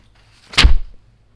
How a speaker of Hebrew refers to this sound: דלת.